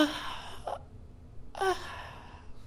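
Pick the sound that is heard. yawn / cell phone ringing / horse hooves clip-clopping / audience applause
yawn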